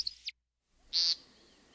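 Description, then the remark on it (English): A single loud, nasal, buzzy peent call from a bird on the ground between display flights, clear, preceded by a couple of faint high chirps and a brief silence. “Then it comes zigzagging down to the ground where it will do its peent before another flight.”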